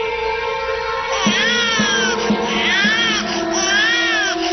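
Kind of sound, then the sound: sound effect, baby crying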